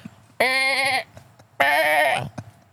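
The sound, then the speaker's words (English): A person imitates a sheep with two loud, wavering bleats, each lasting about half a second to a second, separated by a brief pause. “I don't have sheep in my backyard. That is my best sheeple impersonation.”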